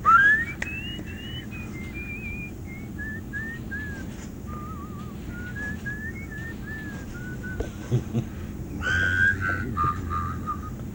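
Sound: person whistling a tune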